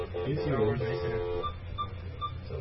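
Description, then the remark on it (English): A few short telephone keypad beeps sound one after another at uneven intervals, following a brief stretch of voice-like sound, over a steady low background hum. “We can take the phone off the hook.”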